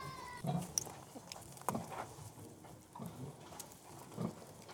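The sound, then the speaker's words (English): Pigs grunt and snuffle while eating slop at a trough, with several short, loud bursts of noisy feeding sounds over a steady barnyard background. “These are pigs on the trough here, just enjoying some good old slop.”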